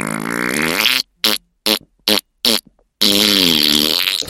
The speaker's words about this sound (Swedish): Så han lyfte på ena skinkan och pruttade länge och ljudligt och... Så, men det fanns mer gaser kvar. Så han lyfte på den andra skinkan och pruttade igen och...